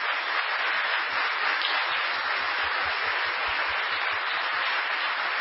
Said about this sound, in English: So I want to recognize them. If you could give them a round of applause, please.